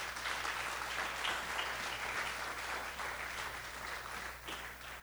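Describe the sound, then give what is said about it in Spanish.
An audience claps together in sustained, steady applause as an offering of applause to Jesus, a dense wash of many hands lasting the whole stretch with no voices breaking through, fading slightly toward the end. “Dele una ofrenda de palmas a Él.”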